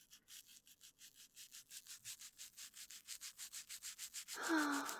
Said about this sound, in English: Oh. How does that feel, baby? Good? That's good. Because you deserve the best, Kitty. Only the best scritches for the best kitty in the whole wide world.